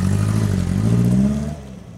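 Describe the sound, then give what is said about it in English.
A car engine revs with a steady low rumble and rising whir as the car drives down a steep hill, then eases off and fades slightly as it pulls away. No voices. “Ted drives down a steep hill.”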